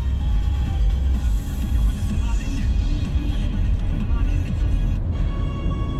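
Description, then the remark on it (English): A car speeds through the city of Moscow late at night, its steady low road rumble and engine drone filling the whole stretch, with faint muffled voices in the background. “And so it's a great relief, quite late at night now, to be speeding through the city.”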